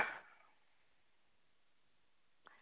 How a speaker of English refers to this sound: God bless you.